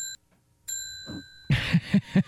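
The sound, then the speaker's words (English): A bright bell dings twice: a short first strike, then a longer ringing tone that fades slowly, followed by a burst of noisy, rhythmic thumping. “That's my victory bell.”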